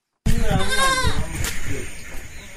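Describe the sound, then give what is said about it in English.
A goat on a goat and cattle farm on the bank of the River Nile in Bor, some 90 miles from Juba, lets out one loud, wavering bleat, then the call gives way to steady outdoor background noise with faint farm sounds. “inspects his goats and cattle on his farm at the bank of the River Nile in Bor, some 90 miles east of the capital Juba.”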